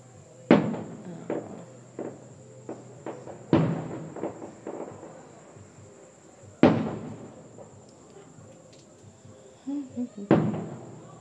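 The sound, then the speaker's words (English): Fireworks go off outdoors in the desert in hot weather in the 90s °F: four big booming bursts spaced a few seconds apart, with smaller pops and crackles in between. A faint steady high whine hangs underneath, and no one speaks. “So everybody's watching the fireworks from the comfort of their home.”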